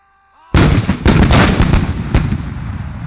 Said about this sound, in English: Soon the howitzers were in action.